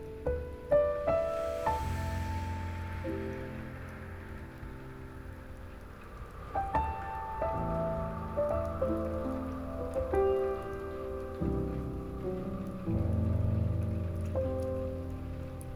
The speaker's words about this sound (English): now, deep into your breath, hearing nothing but its ventilated hums as they harmonize with the sweet crashes of the raindrops.